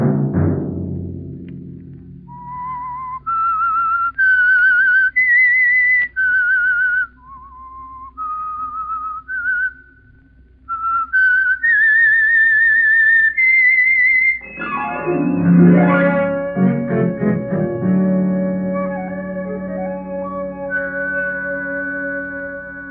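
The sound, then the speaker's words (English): A lone whistled melody of sustained, wavering notes climbing and falling in an eerie tune, followed by a swell of orchestral music with strings and brass. This is the theme of The Whistler radio drama, the Signal Oil Program. “Next Monday at 9 o'clock, the Signal Oil Program will bring you another strange tale by the Whistler.”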